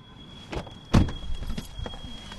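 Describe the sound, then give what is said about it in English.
Someone climbs into a parked car: a few soft clicks and shuffles, then one solid door thud, followed by rustling movement in a quiet cabin with a faint steady hum. “Okay, so we're back in the car.”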